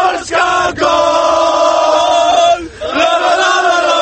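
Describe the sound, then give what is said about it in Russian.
A large crowd of football fans in the special fan zone in central Warsaw, Poland, gathered for the opening of the championship, roars and chants together in a loud, sustained, tonal wall of sound, broken by a few brief dips before swelling again. “Еще большее количество поклонников футбола в специальной зоне болельщиков в центре Варшавы.”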